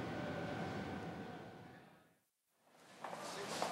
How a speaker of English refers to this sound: Look, here's the train.